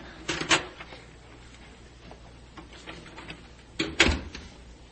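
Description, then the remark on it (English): A door opens with a short clattering rattle, then after a few seconds of quiet it shuts with a louder knock and rattle. Faint background hum, no voices. “We'll see you to the door.”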